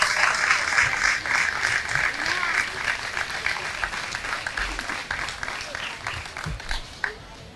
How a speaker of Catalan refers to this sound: Un fort aplaudiment.